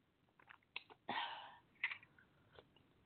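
Someone sips coffee: a few small mouth clicks, then one airy slurp lasting about half a second, followed by quieter lip and swallow sounds. No one speaks.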